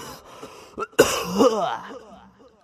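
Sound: coughing and throat clearing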